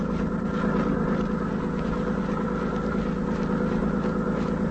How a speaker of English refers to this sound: Yeah, I hear the boat. What's up? Looks like it's towed by sea. Landing barge, huh?